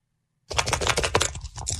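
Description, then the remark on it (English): After a brief silence, a set of woke word dice burst into a loud clatter, a dense run of quick plastic clicks as they rattle and tumble across a surface, continuing steadily to the end. “you have the woke word dice, right? I was told you have captured that sound.”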